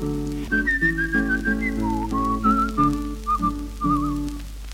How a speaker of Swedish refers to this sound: Han kunde vissla bra också.